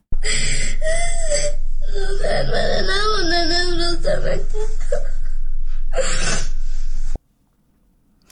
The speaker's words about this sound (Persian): گریه و ناله یکی از دانش آموزان دختر در افغانستان بود که ظاهراً بعد دنبال تصمیم طالبان مبنی بر تداوم بسته ماندن دروازه های مکتب ها برای دختران بالاتر از صنف ششم به شدت پریشان و مایوس شده.